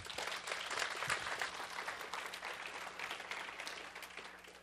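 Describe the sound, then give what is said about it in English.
Steady audience applause fills the whole stretch, a dense crackle of many hands clapping at a fairly even level without any voices breaking through. “Let's give her a hand.”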